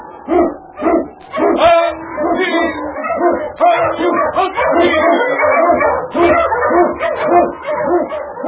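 eskimo sled dog barking

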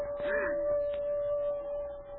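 timber wolf howling

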